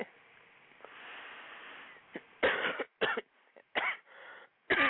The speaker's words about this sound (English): Excuse me with the coughing.